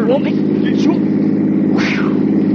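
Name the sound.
truck approaching on road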